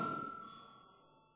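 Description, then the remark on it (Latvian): A parliament chamber bell rings to call members to vote after debate ends, a sustained, bright electric tone that steadily fades away over a second or so, heard faintly with no talking. “Lūdzu zvanu.”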